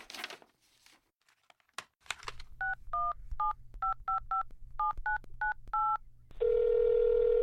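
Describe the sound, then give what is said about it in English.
A handful of rustling, crinkly noises, then a steady low hum with a quick run of about eleven beeping touch-tone keypresses dialing a phone call to Yale Admissions, followed by a continuous ringback or line tone. “Your mom told me to remind you to call Yale.”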